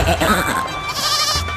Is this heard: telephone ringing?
no